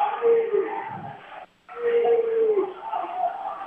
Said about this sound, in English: The crowd's wild here. The crowd's wild.